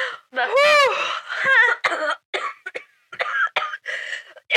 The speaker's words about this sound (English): has a smoker's cough. I do, I'm sorry.